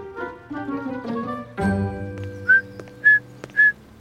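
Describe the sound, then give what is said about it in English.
A person whistles three short, high, bird-like chirps in an even rhythm, imitating a sparrow's song. Steady tonal music plays beforehand and continues faintly underneath. “Perfect time for a little bird song.”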